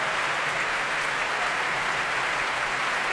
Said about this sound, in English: They're coming back onto the stage now. …, the young American. Can you hear the cheers?